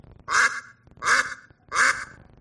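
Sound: duck quacking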